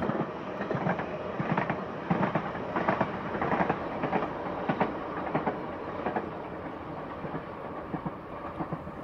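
train passing

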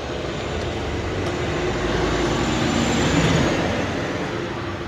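car driving

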